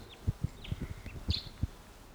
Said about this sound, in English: Wild bird. Must be perched somewhere about 150 or 200 yards away.